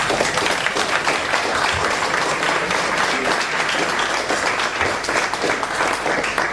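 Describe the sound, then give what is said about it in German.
Sustained applause from an audience at a presentation, clapping on request to support inviting the presenter to a theme evening, a dense steady wash of many hands clapping at once, fairly loud and continuous for several seconds with no voices standing out. “Jeder, der gern möchte, dass wir Marc zum Themenabend einladen, wo viel Zeit ist, die ganzen Sachen noch mal ein bisschen detaillierter vorzustellen, dann klatsche bitte jetzt.”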